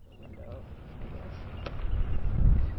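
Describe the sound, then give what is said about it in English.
Wind blows outdoors on a cold winter day on Mackinac Island, a low rumbling buffet that swells louder toward the end, with gusts thudding against the microphone. “It's a cold and windy winter day on Mackinac Island.”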